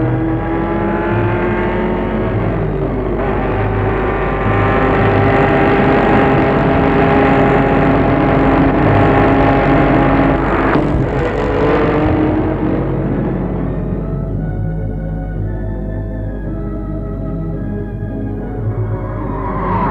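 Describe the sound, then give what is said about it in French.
Loud, roaring race car engines rev and whine continuously as cars race during the filming of a movie race scene, pitch rising and falling as they accelerate, with the roar thinning out toward the end. No one speaks. “En réalité, pour filmer une course, il en faut plusieurs.”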